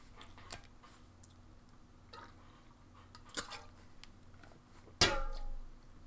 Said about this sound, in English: I'm going to take a drink of water first.